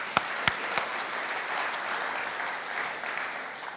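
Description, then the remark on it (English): A crowd applauds steadily, a dense wash of clapping that opens with a few sharp, louder claps before settling into an even, sustained patter for several seconds. “You can applaud to that.”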